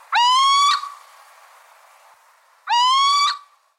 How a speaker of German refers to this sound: Es handelt sich um den kleinen Steinkauz.